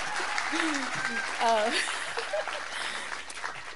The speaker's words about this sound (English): Clap, clap, clap. That's a big deal.